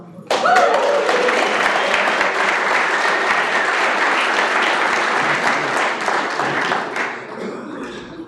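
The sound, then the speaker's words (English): A crowd applauds a speaker being introduced for the evening, a dense wash of many hands clapping that starts abruptly, holds loud and even for several seconds, then thins out toward the end. “Please hold your applause for the real guy who deserves it, and that's our speaker tonight.”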